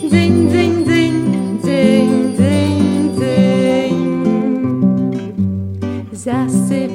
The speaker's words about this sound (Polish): Jaka pyszna sanna, parska raźno koń. Śnieg rozbija kopytami, sanki dzwonią dzwoneczkami. Dzyń, dzyń, dzyń.